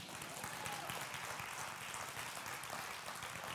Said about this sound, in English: You can clap a little bit better on a Sunday if you want to.